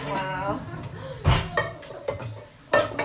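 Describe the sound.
Dishes and pots clatter in a few sharp, loud knocks and clinks spread over a few seconds, with a voice murmuring between the bangs.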